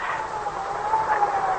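An ambulance siren wails in a steady, slowly wavering tone over a wash of road noise, moderately loud, heard from a car on the road, with no one speaking.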